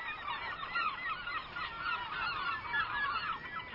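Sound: herring gull calls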